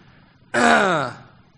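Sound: cough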